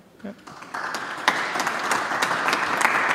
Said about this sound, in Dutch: Ja. Applaus in de Oude Kerk